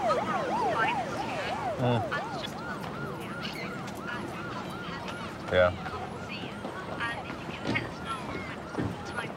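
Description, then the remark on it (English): A police siren wails in a steady rising-and-falling pattern, fairly loud and continuous, as a patrol car with two uniformed police officers pulls up, with voices and street noise mixed underneath. “Two uniformed police officers have pulled up in a patrol car.”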